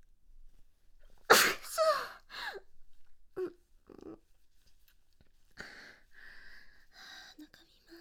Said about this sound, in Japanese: 風邪の名残と言いますか、あの敏感ですね今鼻が。すごいすぐこちょこちょしただけでくしゃみが出てきます。